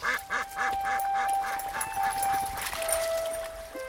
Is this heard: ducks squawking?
yes